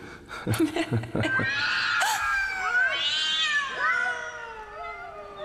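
Cats yowl in long, wavering, overlapping cries that rise and bend in pitch, fairly loud, preceded by a few sharp knocking thuds at the start.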